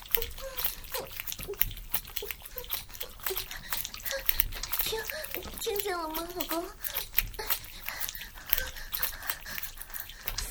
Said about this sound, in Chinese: 是我房间里有很多蚊子，吵得我和儿子都睡不着呢。你听，老公，我爸和我儿子正在打蚊子呢。